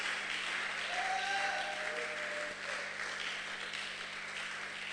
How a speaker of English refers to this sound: I think you can thank God by clapping and shouting.